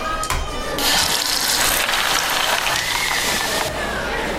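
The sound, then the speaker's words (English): Soda water fizzes and spills, a steady bright hissing with fine crackle that surges up after a short start and holds for about three seconds before easing off. No one speaks. “Oh, you spilled soda water. The soda water was fizzed up.”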